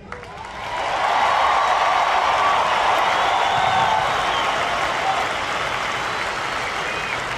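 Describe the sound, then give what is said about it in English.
A crowd at Old Busch Stadium erupts into loud applause mixed with cheering voices after a poem is read at the microphone, on the first day back of games, September 17, 2001, swelling within the first second into a dense, steady roar of clapping that holds for several seconds before easing slightly. “And the crowd just erupts.”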